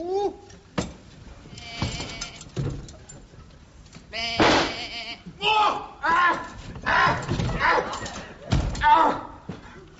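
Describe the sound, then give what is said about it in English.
Several loud, wavering sheep bleats follow one another in quick succession. Short thumps and some vocal sounds mix in between the calls. “Now, normally a sheep is a placid, timid creature, but you've got a killer.”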